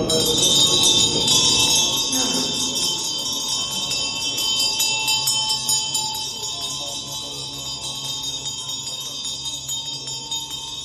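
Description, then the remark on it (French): Ritual bells ring continuously, their bright metallic tones overlapping into a sustained shimmering wash. The ringing stays fairly loud and steady throughout, with no voices. “À quoi correspondent les cloches?”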